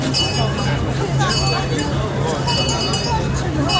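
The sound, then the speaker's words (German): A bright, metallic bell at a Christmas market keeps ringing in steady, sustained tones, announcing a passing tram, over a dense crowd babble and a low continuous hum, loud and unbroken for the whole few seconds. “Das ist der Glockenspieler zum Weihnachtsmarkt, der ankündigt, dass eine Straßenbahn vorbeifährt.”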